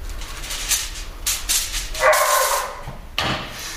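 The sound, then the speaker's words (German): A dog, Johnny, that sounds very hungry barks and yips in a few short, excited bursts, with a brief whining tone in between; no one speaks. “Der hört sich wirklich sehr hungrig an.”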